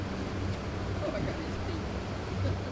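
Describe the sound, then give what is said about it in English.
A motorboat drones steadily across open water on Fontana Lake, heading back to the lake's south shore. Its low engine hum stays constant beneath a broad wash of spray and wind, with faint, indistinct voices in the background. “After a boat ride back to the south shore of Fontana Lake, we all get out, everybody says their goodbyes”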